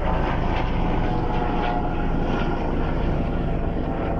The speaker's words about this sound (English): Is that a Coast Guard chopper? That was weird. Yeah. I think it was.